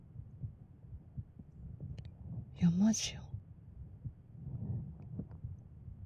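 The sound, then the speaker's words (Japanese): A steady, muffled heartbeat thumps throughout, low and rhythmic, with a brief spoken phrase from a voice partway through. “こんだけ心臓ドキドキ言ってんのは信じてよ。”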